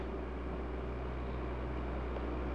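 A passing truck's low engine rumble drones steadily throughout, fairly loud, with a broad noisy roar over it and no voices.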